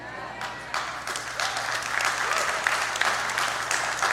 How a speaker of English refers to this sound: So let me say it like this, because some people will get on their chair and cheer for this. You cannot murder babies and be a follower of Jesus Christ.